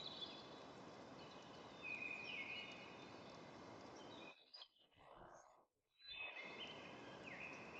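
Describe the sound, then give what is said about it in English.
Several birds chirp and whistle in scattered bursts in a forest over a steady outdoor hiss, with a brief quiet dip midway before the calls and ambience return. “You perceive the field of birds, the creaking of trunks and branches.”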